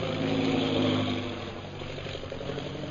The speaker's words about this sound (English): That is one of our new bombing planes, now arriving for establishing our Purple Triangle Kingdom.